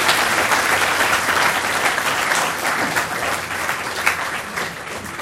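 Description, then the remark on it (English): A crowd applauds steadily, a dense wash of many hands clapping at once, loud and sustained without pause for several seconds before easing slightly toward the end. “Someone just asked, are they all applauding you?”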